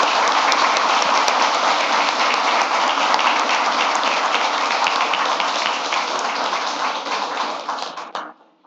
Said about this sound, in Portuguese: Então, eu queria pedir uma salva de palmas fortes para que o Acolher leve o nosso carinho e que continue na luta sempre.